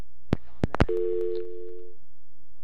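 A few sharp clicks from a phone line, then a steady, continuous telephone dial tone hums for about a second before cutting off, after a caller to a radio call-in show hangs up. No voices are present.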